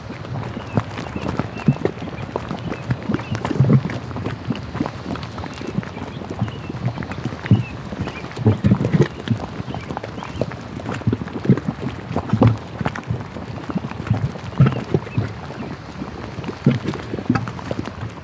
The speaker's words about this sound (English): One of my favorite things to record are the mud pots. And so this next recording is fountain paint pots.